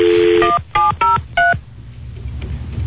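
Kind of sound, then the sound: signal or alarm, telephone number being dialed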